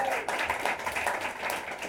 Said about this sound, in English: I'm glad you clapped a little bit less for him because he's not here.